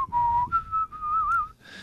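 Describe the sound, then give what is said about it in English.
A person whistles a wandering, warbling line that slides between a few pitches without forming any recognizable tune, fairly steady, ending with a breathy fade. “Not only wasn't it a recognizable tune, but all that warbling.”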